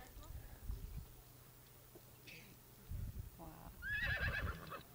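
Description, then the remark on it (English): Horses, upset at seeing one of their companions being lassoed, neigh several times, with a brief whinny early on and a loud, shrill, quavering whinny near the end, set against a low rumbling background with faint murmuring. “Horses all over the place are getting upset because they're seeing one of their companions being lassoed for someone like me.”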